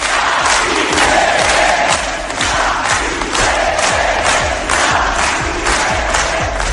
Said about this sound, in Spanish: No quisieron los de Bildu hablar de independencia durante la campaña electoral, pero ayer, cuando estábamos allí, el grito era claro, pedían la independencia.